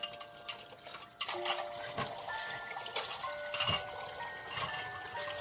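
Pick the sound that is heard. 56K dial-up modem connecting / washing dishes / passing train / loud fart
washing dishes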